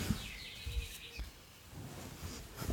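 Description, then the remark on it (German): A bird chirps repeatedly outside an open window, thin high-pitched calls drifting in from outside, fairly faint beneath soft low rumbles and room noise. “Übrigens höre ich die ganze Zeit bei dir so einen scheiß Vogel piepen, ne?”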